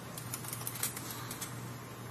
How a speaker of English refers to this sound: And watch blurry text while we listen to an old Model M keyboard rattle away.